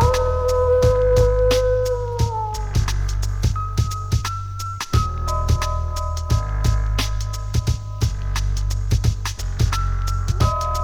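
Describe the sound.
Long, wavering howls at the moon that rise and slowly fall, layered over a steady low rumble and a scatter of sharp clicks, with no one speaking.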